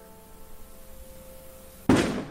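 A single sharp firecracker bang bursts in near the end after a quiet stretch with a faint steady hum, its loud crack trailing off into a brief decaying rumble.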